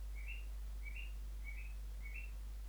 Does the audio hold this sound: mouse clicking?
no